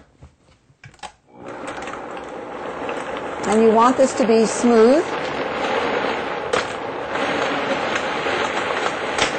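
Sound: kitchen blender running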